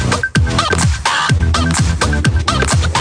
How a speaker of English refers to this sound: Why is there a chicken?